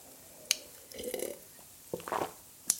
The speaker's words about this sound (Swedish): Jag får dricka lite vatten, förlåt.